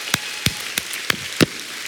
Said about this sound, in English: And I think we ought to give God a thank offering, a clap offering